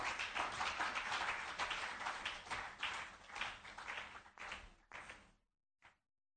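An audience claps hands together, a dense, steady wash of clapping for about four seconds that thins into a few scattered claps, then a pause and one last brief clap.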